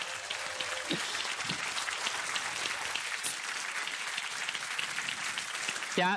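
A crowd applauds steadily to welcome a speaker to a presentation, a dense, even wash of many hands clapping at once that holds at full strength for about six seconds without fading.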